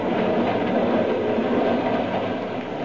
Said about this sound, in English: But first, I want you to be my guest on a little train ride.